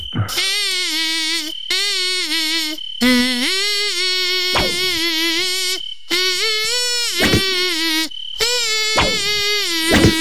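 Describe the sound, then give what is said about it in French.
A loud, nasal mosquito-like buzz in a radio studio hums a popular hit song in phrases, its pitch sliding up and down between short pauses, with no talking over it. “un gros moustique qui est dans le studio Nostalgie. Il va reprendre des tubes Nostalgie”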